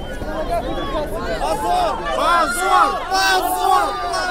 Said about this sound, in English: The crowd there shouting, shame, shame, and they were dragging.